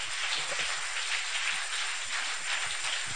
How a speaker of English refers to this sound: Oh yeah, you can clap those hands.